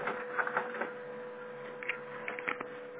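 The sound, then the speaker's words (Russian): A printer runs steadily, feeding paper with a constant mechanical hum and a steady tone, punctuated by soft clicks and brief clattering bursts. It sounds moderately quiet, with no one talking. “Ну тогда пока давайте ему бумагу, но если оно опять будет, то стоит просто ему полностью перезагрузить все по питанию.”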